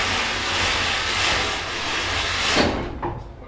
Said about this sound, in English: After about 30 minutes, the train pulled into Lexington and put on the brakes for the day.